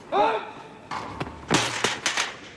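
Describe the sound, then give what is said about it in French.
During a tennis match, a ball kid hurrying past catches a foot on a small sponsor board in front of the umpire's chair, giving a few hollow knocks and a rattling thud, just after a brief voice. “Ça, c'est les petits sponsors qui sont juste devant la chaise de l'arbitre qu'un ramasseur de balles vient de se prendre dans les pieds en repassant un peu vite.”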